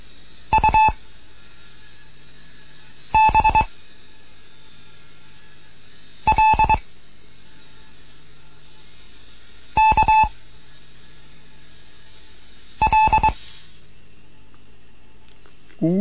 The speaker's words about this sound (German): Hier ist Digot 1 Kilo November in Bremen mit einem Morseunterricht für Anfänger. Es kommen jetzt Übungen mit P.